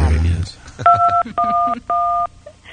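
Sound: telephone keypad button tones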